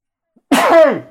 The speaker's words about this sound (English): bless you.